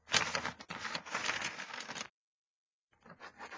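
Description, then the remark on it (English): A pen scratches steadily across paper for about two seconds, pauses briefly, then resumes with more scratchy strokes. Fairly loud, with no voices. “You're writing?”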